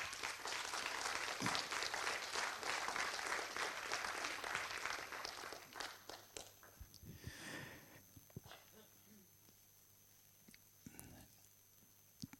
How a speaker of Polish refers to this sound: Wielkie brawa jeszcze raz dla autora i dla, chociaż właściwie pośrednio te brawa należą się w jakiś sposób bohaterowi świętej pamięci, panu Stanisławowi Helskiemu.